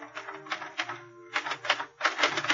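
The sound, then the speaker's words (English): Rapid, uneven clacking of the keys of a portable typewriter on a desk in a living room, typed with gloves on, struck in quick bursts, fairly loud, with a short pause before a denser flurry of keystrokes; no voices. “At 9:15, I was sitting in front of the portable typewriter on the desk in her living room.”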